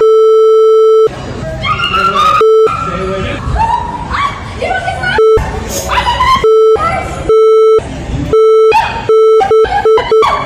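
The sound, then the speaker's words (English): Repeated censor bleeps, a steady electronic tone cutting in and out over the loud, agitated speech of a woman running through the Dallas-Fort Worth airport in Texas, with the beeps covering much of the talking in quick bursts toward the end. “It's all beeps.”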